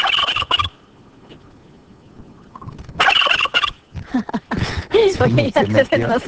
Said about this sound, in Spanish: Oye, se nos metió aquí el guajolote. El animal dijo este.